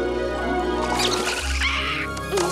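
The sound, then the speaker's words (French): A steady, full rush of river water flows continuously, with a few faint chirping sounds rising briefly above the torrent midway through. “Mais la rivière est loin d'être calme.”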